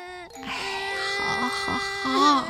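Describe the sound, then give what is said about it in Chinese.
Someone cries in a high, wavering wail, fairly loud, sustained for a couple of seconds after a brief catch in the breath, the pitch wobbling and rising near the end; the crier is shivering, with shoulders badly chilled from the cold. “却哭了起来，肩膀冻得很厉害。”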